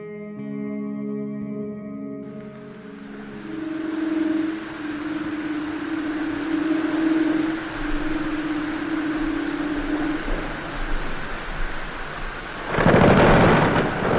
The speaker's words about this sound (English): These sounds of breaking glaciers and the songs of leopard seals were recorded in Antarctica. The breaking ice so far away is connected to us by cause and effect.